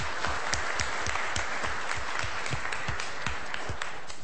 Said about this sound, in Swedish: Ja. En applåd för dig.